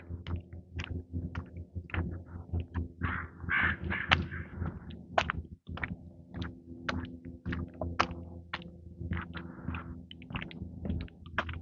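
Crows caw again and again in harsh, irregular bursts, some calls overlapping, clear above a steady low rumble, with no one talking.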